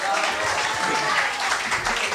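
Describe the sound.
A crowd applauds steadily, dense clapping that stays at an even, fairly loud level throughout, with a faint murmur of voices mixed into the noise.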